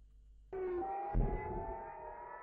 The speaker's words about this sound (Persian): صدای آژیر خطر و اصابت موشک های حزب الله به شهرک کیلچمنه است.